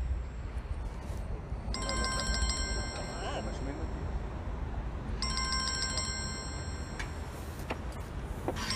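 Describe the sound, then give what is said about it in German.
A telephone rings twice during a live recording, each burst a trilling electronic ring of evenly pulsed high tones lasting about a second, separated by a pause, over a steady low background hum. “Und so ist es, wenn ich Live-Aufnahme mache, da kommt der Telefonat rein.”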